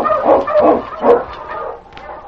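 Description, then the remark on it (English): A sled team of huskies barks and yips excitedly in quick, overlapping bursts, fairly loud, with a few higher whining cries mixed in and no talking. “Get the dogs in line. On King! Run, you Huskies!”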